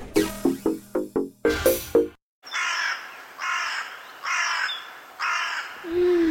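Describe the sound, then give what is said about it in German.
Birds call loudly outdoors: a quick run of harsh, clipped calls, a short pause, then four drawn-out raspy calls repeating at an even pace, with no talking. “Da kriegt man endlich einen freien Kopf und die Vögel zwitschern.”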